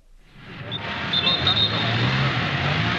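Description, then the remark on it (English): Castro's 16-car motorcade rolls over the Roman cobblestones into St. Peter's Square, Rome, under very tight security: a loud roar of engines and rattling tyre noise that swells within the first second and holds steady, with faint high tyre squeals. “Peter Square was under very tight security this morning as Castro's 16-car motorcade screeched over the Roman cobblestones.”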